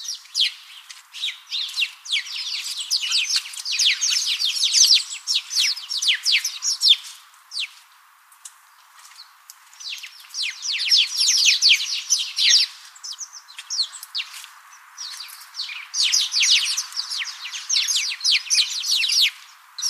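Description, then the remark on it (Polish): A flock of sparrows chirps in dense, overlapping bursts of short high tweets, swelling and fading in waves with a brief lull midway, lively, with no voices. “No to posłuchajmy stada wróbli.”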